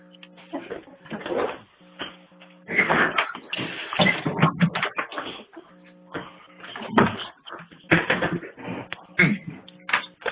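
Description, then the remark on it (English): Chairs being stacked: a run of irregular clattering knocks and scrapes, bursts of banging with short pauses between, over a steady low hum. “It's like a stack of the chairs.”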